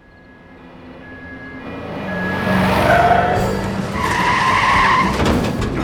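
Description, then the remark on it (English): The tires of a bakery truck screech and skid loudly as it flees the police in a car chase, a rising, wavering squeal over a heavy rumbling engine, swelling over several seconds with no voices. “Then stop driving like a drunken monkey and get us out of here!”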